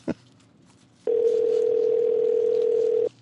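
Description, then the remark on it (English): A soft click, then a single steady telephone ringback tone of an outgoing call sounds for about two seconds before cutting off, clear with no voices. “It's just ringing in his pocket.”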